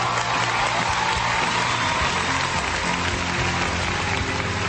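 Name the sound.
round of applause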